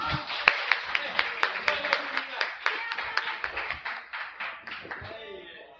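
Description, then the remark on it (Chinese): An audience applauds in a steady, rhythmic beat for a family of performers about to dance a tango and cha-cha, claps landing about three times per second, with murmuring voices and cheers underneath; the clapping loosens and trails off at the end. “我们给他们点掌声好吗？”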